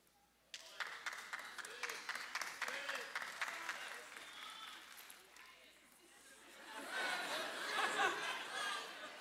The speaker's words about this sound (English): Them claps is...